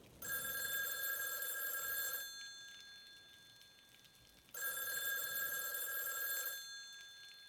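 A telephone rings twice on a stormy night in an apartment, each bright, buzzing electronic ring lasting about two seconds with a pause between, over a faint background hiss like light rain. No one speaks.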